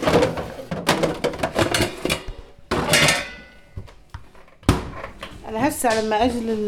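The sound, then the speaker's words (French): Dishes, pots and pans clatter and clank in bursts as they are washed and stacked, with a voice briefly audible toward the end. “Quand je fais la vaisselle, je récupère l'eau dans des seaux.”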